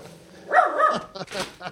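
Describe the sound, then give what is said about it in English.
A dog barks excitedly, two quick, loud bursts within a couple of seconds, the second sharper and higher than the first, as a delivery person brings a MacBook Pro package to the door. “And the dog goes bananas right on cue.”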